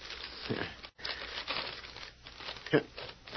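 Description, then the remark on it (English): Paper crinkles and tears as an envelope said to hold a written confession is ripped open, followed by the rustle of a sheet, found blank, being unfolded, with a sharper crackle near the end; fairly loud, no talking. “Let's get that envelope.”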